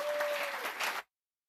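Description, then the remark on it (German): Dense applause from an audience for the teams after their presentations at a weekend event, many hands clapping at once in a steady, full wash of sound for about a second before it cuts off abruptly into silence. “Ich glaube, es ist angebracht, einfach nochmal allen Teams gemeinsam für diese Gesamtleistung, die sie jetzt hier zusammen an diesem Wochenende erbracht haben, nochmal einen donnernden Applaus zu spenden.”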